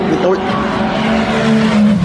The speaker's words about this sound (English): Grumpy Toyota. Sounds very throaty, doesn't it?